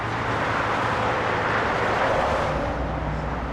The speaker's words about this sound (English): So this is the sounds. You hear them day and night. I still live the equivalent of a block, 3/4 of a block from the highway.